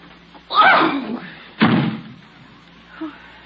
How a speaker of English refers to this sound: Goodbye. Don't slam the door.